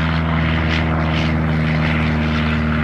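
A propeller airplane drones steadily overhead, its engine a loud, continuous hum with strong low harmonics and a slightly wavering pitch, with no talking.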